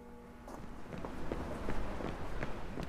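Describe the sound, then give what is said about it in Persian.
Quick, hurried footsteps patter steadily at a brisk pace, with a soft rumbling background and no speech. “اینو میشد از سرعت راه رفتنمونم فهمید.”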